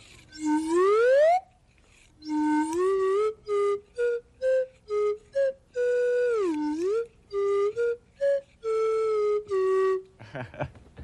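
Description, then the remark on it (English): A slide whistle plays a bouncy tune: a long rising swoop, then a run of short hooting notes and a dipping glide, ending with a brief rustly noise. “I'd like you to see a slide whistle.”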